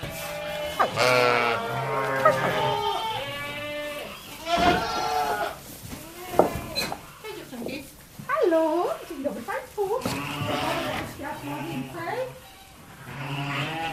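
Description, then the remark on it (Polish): Several sheep on a farm, including Romanov, Polish Lowland and Welsh black-nosed sheep, bleat repeatedly, their wavering, harmonic calls overlapping in quick succession, with a few softer bleats and rustling in between. “Teraz idziemy do owiec. Cześć dziewczynki.”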